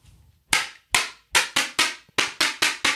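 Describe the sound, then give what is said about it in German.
A cardboard clapper snapped nine times in a quick, slightly uneven rhythm, each one a sharp, bright crack with a short ringing tail, following a brief low rumble at the start. “Um eine Klatschpappe.”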